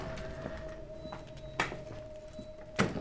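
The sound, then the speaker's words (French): The door of a house being opened: two short, sharp clunks about a second apart, over a quiet background with a faint steady hum and no voices. “Francis ouvre la porte.”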